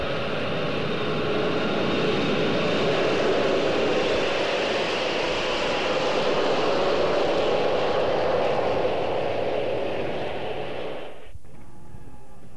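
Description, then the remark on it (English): A loud, steady jet airliner engine roar with a high whine riding on top, on a flight to Newcastle, Ontario, holding for about eleven seconds before cutting off abruptly into a quieter hum. No one speaks. “So, we boarded the big jet airliner and headed off for Newcastle, Ontario.”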